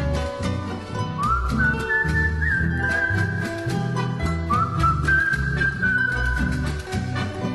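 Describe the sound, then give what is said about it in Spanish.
A soft human whistle carries a melody in two short phrases, rising then holding steady, layered over a steady rhythmic instrumental accompaniment. No voices are heard. “Voy al trotecito, cruzando el palmar, silbando bajito, pronto he de llegar.”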